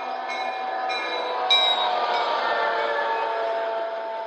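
A train rumbles steadily as it pulls into a station, with a sustained metallic squeal of braking wheels gliding down in pitch as it slows, loud with no voices.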